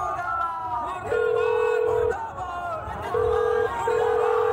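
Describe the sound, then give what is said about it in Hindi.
A phone ringing tone plays through a call made outside an office where a crowd has gathered: steady, fairly loud electronic tones, one long and then two shorter bursts, over a busy background of crowd chatter and murmuring voices. “अब बाबूलाल को फोन लगाती हूँ।”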